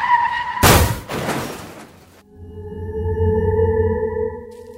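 A fast car rushes up with a loud, harsh burst of noise, then settles into a steady whining, droning tone as it skids and idles. No one speaks.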